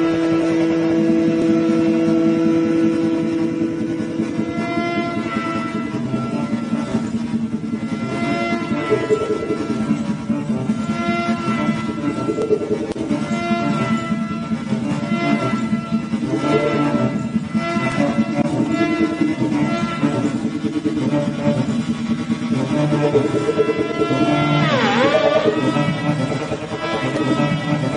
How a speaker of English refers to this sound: That's what creates the sound. And they say that the inspiration for this instrument came from a motorcycle engine. And I think you're going to understand what they meant when you hear this.